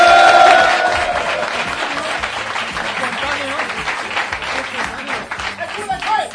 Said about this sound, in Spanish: Se ha visto que no ha sido un aplauso espontáneo, sino que lo habéis hecho dirigiendo al público, no como yo al principio, que empecé a hablar y empezaron a aplaudir ellos una, solos.